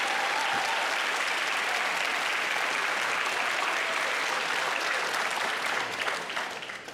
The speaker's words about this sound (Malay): Ya, silang hadirin turut memenuhi dewan ini. Apa kata kita memberikan tepukan kepada kedua-dua pendebat, yang berhormat Rafizi Ramli, Menteri Ekonomi, dan yang berhormat Syahir Sulaiman, Ahli Parlimen Baca.